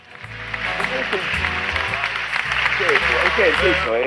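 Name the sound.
applause sound effect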